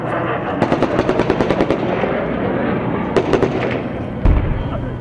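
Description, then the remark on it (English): Bursts of rapid automatic gunfire crackle over a steady rumbling background, pausing and returning, then a single heavy, deep boom of artillery lands near the end. “And when that didn't stop people, it escalated to tanks and artillery.”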